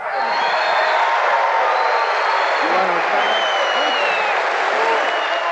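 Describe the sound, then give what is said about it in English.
A large crowd on its feet roars in a dense, sustained wash of applause, shouts and laughter, some laughing at Rubenstein and some yelling. It is loud and continuous throughout, with scattered whoops rising above the din. “Now the crowd's on its feet, some laughing at Rubenstein, some yelling.”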